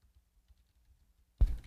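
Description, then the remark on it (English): Near silence, then a sudden clatter near the end, a brief burst of keystrokes on a computer keyboard. No one speaks. “Sorry, I can't see my keys here. There we go.”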